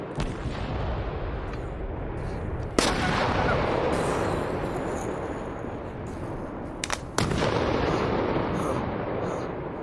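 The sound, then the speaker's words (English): Bat bombs exploding amid pyrotechnic smoke: two sharp, loud bangs with a couple of smaller pops between them, over a steady, dense roar of crackling and rumbling noise that fills the whole stretch. “Let's set off some bat bombs!”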